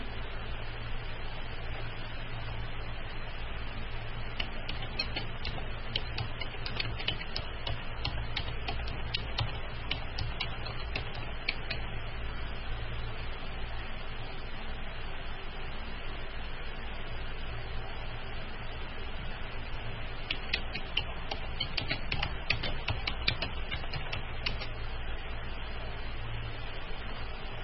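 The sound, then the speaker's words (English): Bursts of quick, light keyboard clicks come in two spells of rapid typing, separated by a quieter pause, all over a steady low hum with no one talking. “I know you guys hear me typing.”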